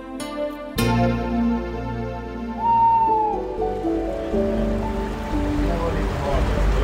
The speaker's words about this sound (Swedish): De är väldigt pigga de här rackarna idag. Ja verkligen, det plaskar väldigt mycket här. Våren är aspens tid. Det är då de simmar upp i åar för att leka.